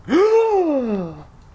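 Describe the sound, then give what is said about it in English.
A single loud gasp: a sharp voiced intake that jumps up in pitch, then trails off in a long falling tone of surprise, heard alone with no talking. “But instead, I turned the bottle over and read the tiny print on the label, and what I read made me gasp out loud.”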